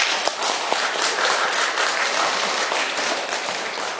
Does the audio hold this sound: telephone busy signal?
no